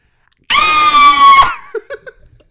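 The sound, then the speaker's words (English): A voice imitates Black Canary's canary cry with one loud, piercing, sustained high-pitched shriek lasting about a second, cut off abruptly and followed by a few short breathy chuckles. “Oh, you want to hear my canary cry?”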